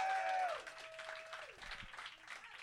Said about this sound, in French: Avant d'aller plus loin, je voulais qu'on donne une bonne main d'applaudissements à nos VJ de la soirée,